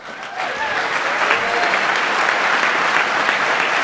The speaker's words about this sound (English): Really excellent job. They did a fine job. A big applause for them.